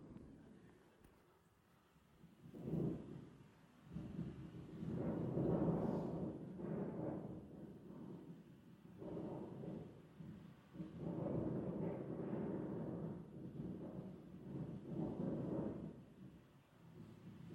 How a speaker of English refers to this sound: And it's not raining. That's wind you hear. And it's a bright, sunny day. Well, it's day. And so you get the idea? It's windy, okay?